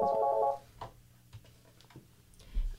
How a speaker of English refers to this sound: Oh, it appears we're getting a phone call. Turn on the phone thing. You have to take it off the hook.